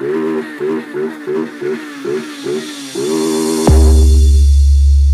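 A motorcycle engine revs in quick, rhythmic bursts, then holds a steady loud rev before a sudden deep, booming bass drop takes over, like a sample inside a music track.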